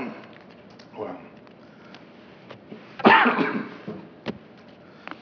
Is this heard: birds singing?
no